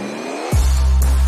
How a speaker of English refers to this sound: Are you ready? Ready when you are. Start your engine.